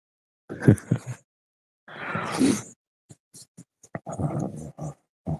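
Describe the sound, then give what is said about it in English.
A puppy gives a couple of rough, throaty growling bursts, followed by scattered clicks and a few shorter grumbling yips and noises. “It's the cabbage puppy.”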